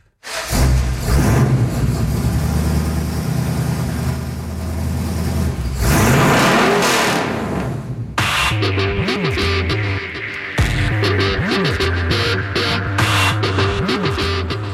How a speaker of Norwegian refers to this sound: Åh, det er i hvert fall en bil. Ja da, det er riktig. Det er ganske sikkert at dette er en såkalt hot rodder.